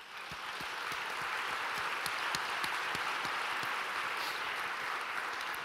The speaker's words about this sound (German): Deswegen einen herzlichen Applaus bitte